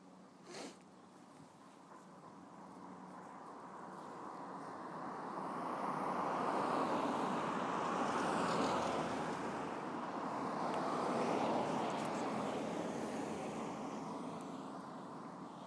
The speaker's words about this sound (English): It's not much fun waiting for buses, is it? This is the Droitwich Road, which links Worcester to Droitwich, funnily enough.